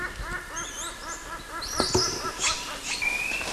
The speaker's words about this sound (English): That was CW squealing and giving a few low amplitude quists. CW squealing again, and then the other male gave a single bark during the squeal.